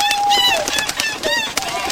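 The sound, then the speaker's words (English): An owl and a goose squabble in a busy flurry of shrill, warbling bird cries, overlapping calls rising and falling for a couple of seconds, with no talking. “That's Ben there with the pre-recorded sport from where an owl is fighting a goose.”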